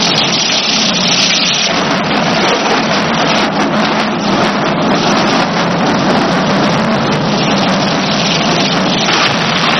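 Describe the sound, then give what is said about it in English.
A long, steady roll of thunder with heavy rumbling and a rain-like wash of noise that stays loud and unbroken for the whole stretch, with no voices. “Lions and thunder. Those are both warning sounds, aren't they?”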